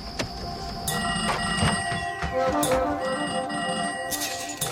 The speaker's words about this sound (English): Sierra McCormick plays Faye, a young switchboard operator in a small town in New Mexico. And in this scene we're about to play, she's suddenly overwhelmed with phone calls.